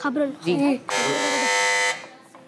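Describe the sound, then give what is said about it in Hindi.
A loud, steady quiz buzzer, pressed by the Darul Madina team during a school quiz, blares for about a second, cutting in right after a stretch of speech, with talking resuming faintly once it stops. “Buzzer बजाती है Darul Medina ने।”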